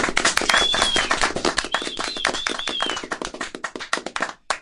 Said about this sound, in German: Na, ein bisschen mehr Applaus hätte ich da schon erwartet.